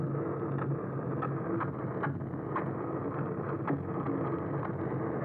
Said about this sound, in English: So like boats, which is actually the most pervasive sound in the ocean.